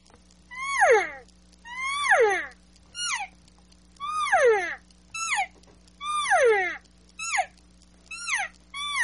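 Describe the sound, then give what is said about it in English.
A calf call blown on a latex call with a smiley mouth shape, letting more air through: about eight high, whiny, downward-sliding mews in a loose long-short rhythm, fairly loud over a faint steady low hum, with no talking. “Watch how when he goes to the calf call, he gets more smiley face, letting a little bit more of that air so it gets quicker on there.”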